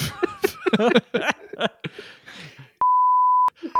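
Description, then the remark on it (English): Fast chatter gives way to a loud, steady, high-pitched censor bleep lasting under a second, followed by a brief burst of speech and the start of another bleep. “Yeah, and if I beeped it out, don't try and guess what the thing is, all right?”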